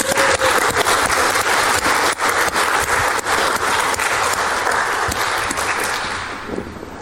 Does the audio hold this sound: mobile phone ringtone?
no